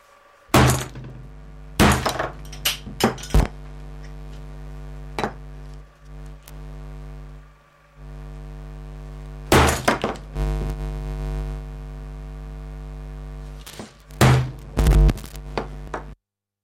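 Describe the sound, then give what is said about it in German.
Heavy hammer blows crash into a loudspeaker in scattered bursts, with clattering, breaking impacts over a steady droning hum of electronic feedback that swells and persists between strikes. “Und ich erledige den Lautsprecher mit einem Hammer.”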